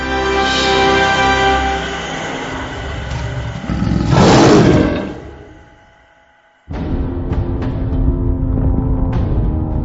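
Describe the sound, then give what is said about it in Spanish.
A deep, powerful saber-toothed cat roar swells up loud over a dense rumbling backdrop, fades away, then a steady low droning bed abruptly returns. “Tigres dientes de sable.”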